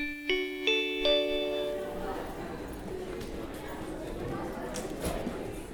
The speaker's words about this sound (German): Die Schulglocken läuten.